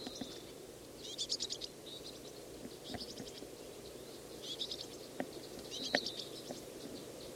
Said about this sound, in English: Just got fed. On again. Bird just got fed. Fluttering its wings, begging some more. The adult just hops away.